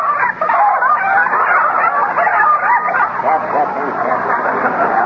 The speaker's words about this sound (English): Oh, say, that's a nice bunch of chickens you've got there. Oh, my gosh, they're in again. Hey, get out of there!